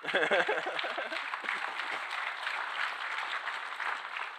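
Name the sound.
audience clapping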